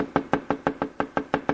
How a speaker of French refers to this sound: Enfin, elle semble voir la cabane du pêcheur. Elle s'y dirige. Frappe à la porte.